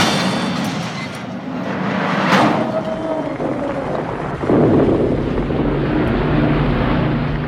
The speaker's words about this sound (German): Kurz darauf hörten wir schweres Flakfeuer und die Einschläge von Bomben. Tiefflieger dröhnten.